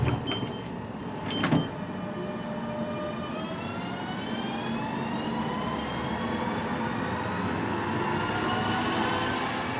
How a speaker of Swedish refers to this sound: Klart för avgång. Dörrarna stängs.